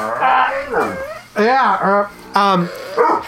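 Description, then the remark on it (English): A dog barks in a loud, irregular series of high, yelping barks with a whiny, drawn-out tone, several bursts separated by short pauses. “Oh, and I've got barking and yelling again, and someone climbing on me.”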